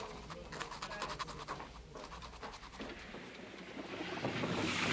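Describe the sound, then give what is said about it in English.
A pen scratches across paper in quick, irregular strokes as a parent writes a letter of permission for a minor to open a bank account, fairly quiet, with a soft hiss that swells toward the end. No one speaks. “I'll write one up right now. Fine. Here.You can use this pen and paper.”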